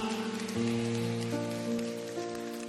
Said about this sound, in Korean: 우리 위에 십자가 지신 예수 그리스도께 모든 감사와 존귀와 영광의 박수를 한번 올려드리겠습니다. 할렐루야! 할렐루야!